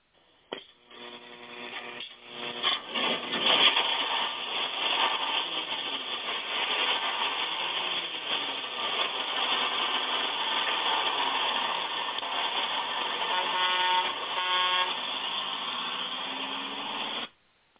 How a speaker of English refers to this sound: as we pull out of the old gospel bus station here, who do we got on board with us?